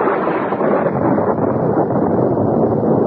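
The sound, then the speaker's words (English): A loud, steady roar of storm wind with deep rolling thunder, sustained without any break or sharp crack, and no voices. “I came awake, my head ringing with the force of the thunderclap.”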